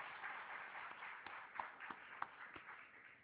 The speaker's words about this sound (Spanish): por favor, y brindémosle un aplauso. Bien merecido.